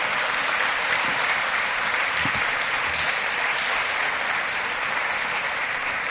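Steady applause from an audience honouring an award laureate, a dense, even wash of many hands clapping at constant loudness throughout, with no one speaking over it.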